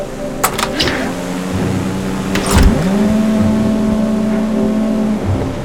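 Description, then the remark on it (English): Engines of many boats out on the water at night, searching with searchlights, drone in a steady, layered low hum, rising slightly mid-way and holding at a moderate level, with a few brief knocks near the start. “What is that? Sounds like an armada.”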